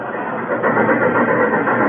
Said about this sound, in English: Hey, that train was really flying this morning. Yeah, it must have been doing at least 60 through the living room.